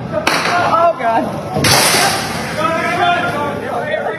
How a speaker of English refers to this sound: Yeah, the gunfire started after 6:30 last night at the Gramercy Apartments on West North Street. Police say the gunman lived there.